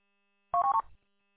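A plugged-in phone lying on a bench gives a brief electronic buzz during a call: a few quick stepped tones in a single half-second burst with a faint rattle underneath, otherwise quiet.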